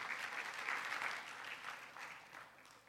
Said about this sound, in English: Amen? Give the Lord an applause.